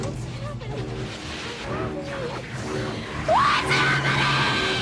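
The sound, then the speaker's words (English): Frantic screaming and shouting from several voices in a tense, chaotic scene from a 1982 horror movie, with a sharp rising shriek near the end over a dense rumble of noise. “that's what your brain is screaming. And that's from the 1982 movie Poltergeist”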